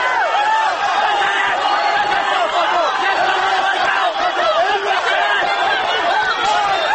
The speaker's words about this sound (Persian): صدای مردم معترض از خیابان‌های شهر به گوش می‌رسد. به سمت برخی از این معترضان در خیابان شلیک می‌شود و جمعی دیگر از آنها زیر باتوم‌های لباس شخصی‌ها فریاد می‌کشند.